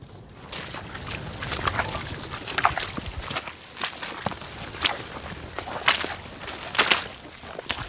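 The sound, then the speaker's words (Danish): Footsteps in rubber boots crunch and squelch across soft outdoor ground in a cattle pasture with a small calf as people run, a steady uneven series of fairly loud steps with no one talking. “Der står den lille kalv, og vi løber her.”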